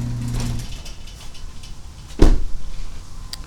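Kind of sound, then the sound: machine, garage door opening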